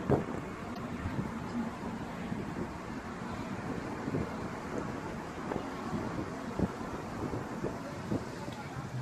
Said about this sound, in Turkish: Ağaçlar, rüzgar.